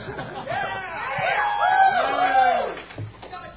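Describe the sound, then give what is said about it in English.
An audience at a technology talk erupts in loud cheering and screaming, many voices overlapping in a sustained, swelling roar that lasts a few seconds before tapering off. “Don't scream that loud.”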